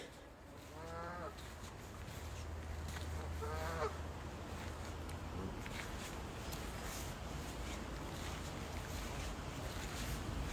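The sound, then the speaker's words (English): A goose honks twice, a few seconds apart, as it attacks a person at a pub, its harsh calls standing out over a steady low rumble of outdoor background noise. No one speaks. “Can we include the sound of me getting attacked by a goose?”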